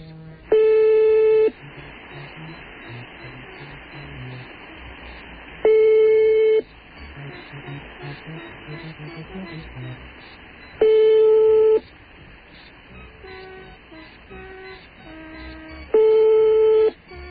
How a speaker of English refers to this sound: Very clear ring, considering it's coming from all the way across the sea. And that's a loud ring, too.